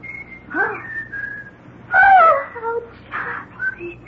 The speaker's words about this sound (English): I've never heard such a bird. What can it be? Why, that's, let's see here a second. Oh, yeah, that's the Australian two-toned weaver bird.